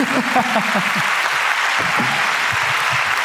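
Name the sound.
audience applause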